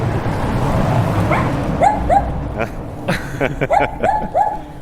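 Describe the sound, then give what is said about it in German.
A small dog yaps in short, high-pitched bursts, a couple at first and then a quick run of barks, heard over steady outdoor background noise. The dog is behind a gate, peering out under it, with a sign on the door warning of the dog. “Guckt unter dem Tor quasi so ein kleines Hundemaul durch.”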